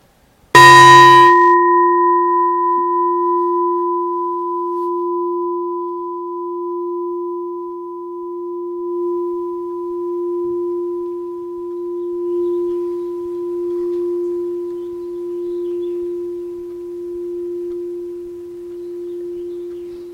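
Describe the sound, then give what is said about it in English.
A single meditation bell is struck once to begin a guided meditation practice, with a bright metallic attack, then rings out in a long, steady, slowly fading hum that sustains for about twenty seconds, with no voices. “And we'll start and end with the bell.”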